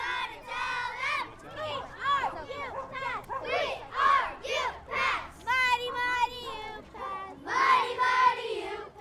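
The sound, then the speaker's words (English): Many children shout and call out over one another in a loud, excited jumble of high-pitched voices, rising in repeated bursts with no pause across the whole stretch, at Fields Park by Fountain Creek one morning. “Even with the high water, it can't overcome the sounds of children engulfing the park on this particular morning.”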